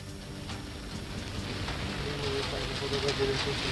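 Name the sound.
rain falling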